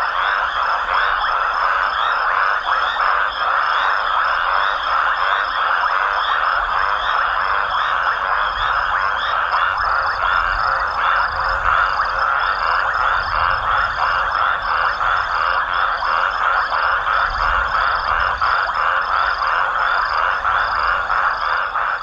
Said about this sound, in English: Here at the Madikwe Game Reserve in South Africa, the sun sets over a watering hole, and the sounds of frogs and insects fill the air. John Bullitt captured the chorus for his CD, ….